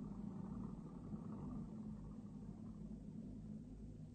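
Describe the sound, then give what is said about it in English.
A car engine drones steadily, a low continuous rumble as the car comes up a hill, with no voices over it. “There's a car coming up the hill.”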